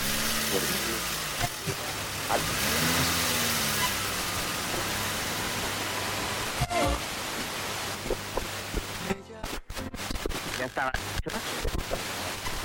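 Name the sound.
car engine running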